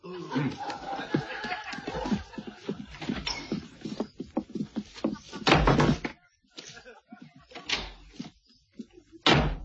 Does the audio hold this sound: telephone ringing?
no